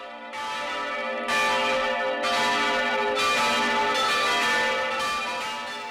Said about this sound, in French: Alléluia, cloche de Pâques! Une procession s'organise dans l'air, déjà compacte et priante, procession des cloches qui s'accélèrent.